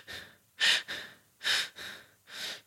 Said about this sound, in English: Number two, when you're breathing, breathe all the way till your belly. You see, most people breathe shallow, till their chest.